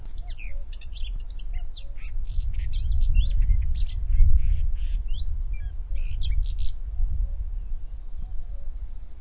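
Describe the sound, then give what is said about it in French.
Several birds sheltering in hedgerows by a vineyard sing and chirp, a busy overlapping chorus of short high calls, over a low rumble of wind or traffic, with no one talking. “On voit aussi beaucoup d'églantines, et on peut entendre, si on arrête de parler un instant, les oiseaux qui sont abrités dans ces haies.”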